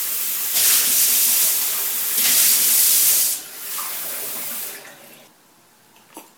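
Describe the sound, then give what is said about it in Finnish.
Water runs in two strong hissing bursts, then a softer stream, as water is poured from a tap for a drink, with no talking; a faint clink follows at the end. “Ja ei vitsi, mun on muuta pakko ottaa vähän vettä tosta.”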